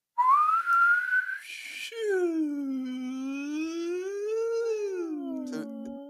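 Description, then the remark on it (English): A person imitates an emergency siren: a short whistled tone sweeps upward, then a sustained voiced wail slowly dips and rises, fairly loud, with no talking. “So my question to you guys is, which of the three emergency services has the best siren?”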